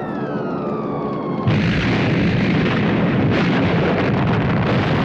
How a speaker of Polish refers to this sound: Nagle nad miastem pojawiły się samoloty. W chwilę potem spadł grad bomb. W wyniku nalotu poniesiono dotkliwe straty.